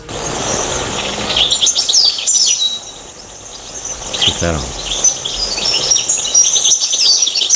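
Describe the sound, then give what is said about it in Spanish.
A European robin sings at night, high, thin, trilling phrases that run through the whole stretch, fairly soft against a steady hiss, while a voice briefly speaks partway through. “Sí, ese es el petirrojo, pobrecito, que canta de noche, está un poquito desorientado, a la que hay algunas farolas o algunas encendidas, pero incluso en el crepúsculo también canta, ¿eh?”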